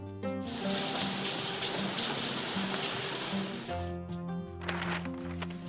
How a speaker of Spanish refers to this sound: Que deje de llover.